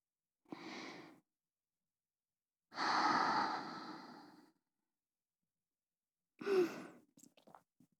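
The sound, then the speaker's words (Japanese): Three soft, airy exhalations blown out, the middle one longest, separated by silence; a few faint mouth clicks follow the last breath. No talking. “おちんちんに吐息かけてみたわ。”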